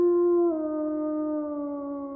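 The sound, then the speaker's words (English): A single long wolf howl, a steady sustained tone that dips slightly in pitch early on and then holds, fairly loud with nothing else around it. “of a sudden, after you've screamed and it starts to turn into that howl, everything snaps.”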